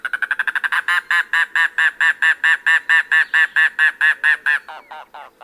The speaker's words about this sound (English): There lurks a more secretive bird in the Everglades and Florida Keys, the mangrove cuckoo. Rarely seen, it sings sporadically in winter, but when it does, you'll know it.